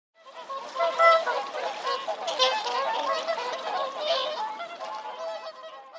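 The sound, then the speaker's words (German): A mother swan swims on a pond in a park with her grey cygnets around her, calling with harsh, nasal honks that overlap in a steady chorus for several seconds, moderately loud, with no voices. “Ja, Mamas Schwan ist auf dem Teich geschwommen und ihre grauen Küken alle um sie herum.”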